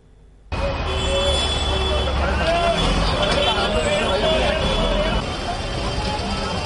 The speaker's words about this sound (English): Crowds waiting for metros and buses. Ironically, a fallout of the tighter new curbs against crowds on public transport.